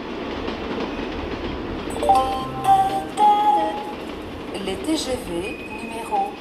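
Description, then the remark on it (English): Busy mainline railway station ambience in France in August: a steady rumble of trains with sharp metallic squeals and tones around the middle, set against a low wash of indistinct crowd voices. “August in France, when Paris empties out, brings an annual ritual to the country's mainline railway stations.”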